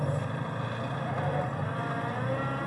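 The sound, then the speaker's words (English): The engine of an old Land Rover runs while driving, a steady, droning low rumbling hum with harmonic whine above it, holding an even loudness with no voices present. “Completely normal for a Land Rover of this age, right up until the late 70s, I think.”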